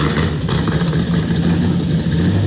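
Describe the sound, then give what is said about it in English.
A classic muscle car engine rumbles loudly, its deep throaty growl holding steady with slight rises in pitch like light revving, continuous throughout with no voices. “Throughout her life, Christine spent countless hours working with her dad on classic muscle cars in his colorful garage.”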